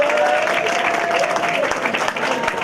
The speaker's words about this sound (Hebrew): הבחור הנעים והמנעים, שאתם מוחאי כפיים לכולם, מי זה?